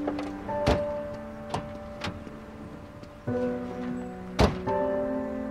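A car's back door clicks open and later slams shut with a loud thunk, among a few lighter knocks, all over the steady, low hum of an idling engine.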